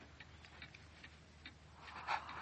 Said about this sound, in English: Was that the clock downstairs? No, Birdie. That one keeps good time. Right now it's nearly 10 o'clock.